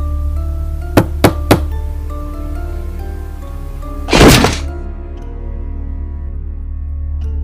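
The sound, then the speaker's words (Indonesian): Three sharp, evenly spaced bangs on the door of the neighbouring room at night, then after a pause a heavy, louder crash as the door is broken down, leaving a low steady hum with no talking. “Ku gedor lagi pintu kamar sebelah hingga ku dobrak pintunya.”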